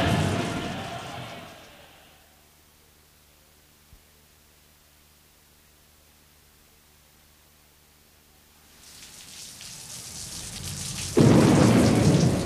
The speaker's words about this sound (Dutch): Bij de Ieren is op dit moment de bliksem ingeslagen. Misschien heb je nog zojuist net de laatste knal gehoord. Dat was een fantastisch gezicht.